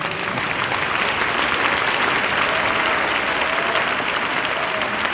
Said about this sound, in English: One more time, clap your hands to the Lord.